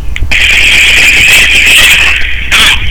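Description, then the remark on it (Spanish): A telephone rings with a loud, steady, high-pitched electronic tone lasting about two seconds, pauses briefly, then starts ringing again, signalling an incoming call. No one speaks. “Pero está entrando una llamada.”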